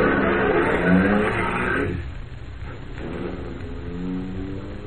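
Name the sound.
car driving away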